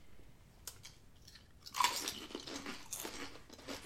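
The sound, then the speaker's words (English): A sharp bite into a chili lime kettle chip made with avocado oil and citrus-infused salt, followed by a run of loud, brittle crunches as it is chewed, with no talking over the sound. “This is our first kettle chip that we've had.”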